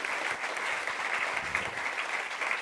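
An audience claps steadily at the close of an evening talk, a dense, continuous patter of many hands at an even level throughout, with no voices standing out.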